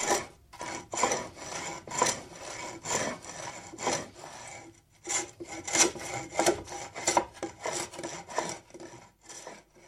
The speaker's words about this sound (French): La rabota avec le frère rabot au ton tranchant qui épluche tout ce qu'il touche.